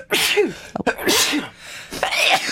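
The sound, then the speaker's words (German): Three sneezes in a row, each a sharp breathy burst, loud, with short pauses between them and no talking. “Oh, Gesundheit, man merkt es, wir sind mitten in der Verkältungszeit.”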